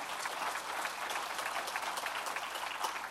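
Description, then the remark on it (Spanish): An audience at an evening church service claps steadily and loudly for several seconds in praise of the Lord, a dense crackling wash of many hands with no voices standing out. “Dele un fuerte aplauso.”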